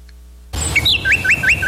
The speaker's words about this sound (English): Hear that? The sound of adorable little birds in your garden.